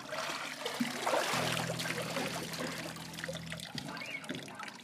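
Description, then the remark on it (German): Water sloshes and trickles as a 16-year-old girl is pushed fully under water by a pastor in a large wine tub during a Mennonite baptism, with a steady low hum running beneath the splashing for a few seconds. “Sie verschwindet mit dem ganzen Körper in einem großen Weinzuber.”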